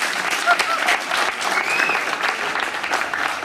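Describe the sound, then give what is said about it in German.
Steady, dense applause from an audience welcoming a guest introduced as the rum king of Berlin, a continuous wash of many hands clapping at an even loudness for a few seconds, with a couple of brief whistles rising above it. “Bitte begrüßen Sie mit einem frenetischen Applaus herzlich den Rumkönig von Berlin oder auch den Rumperator genannt,”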